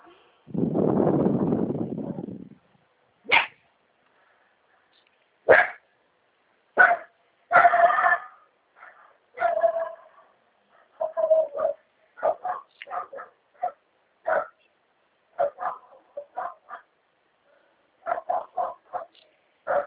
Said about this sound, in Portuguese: Ó, os cachorros tá bravo hoje. É os outros cachorros que passam no portão, ela vem e fica brava.